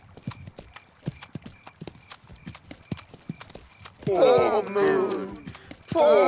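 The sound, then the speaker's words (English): Hooves clip-clop at a steady walking pace, crisp, as a sheep, a duck and a cow walk, for about four seconds before a voice begins speaking over the fading steps. “The sheep, the duck and the cow walk and walk.”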